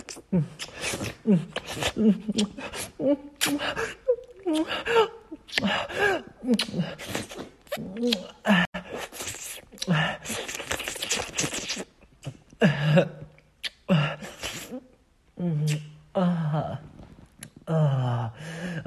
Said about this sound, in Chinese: 你看我中间喘气的时候啊，你一定要快喘，就什么呢，表示一种贪婪，就是我上气不接下气的去不断的舔啊，我不需要换一口很完整的气。